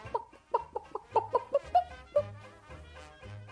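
A small speckled hen scratching about a yard clucks in a quick run of about eight short, rhythmic clucks, clear, then trails off into a low, quiet background hum.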